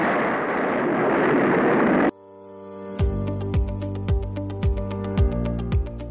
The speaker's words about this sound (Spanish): los 33 motores Raptor del propulsor Super Heavy arrancaron con éxito y completaron por primera vez un encendido en conjunto y de duración completa.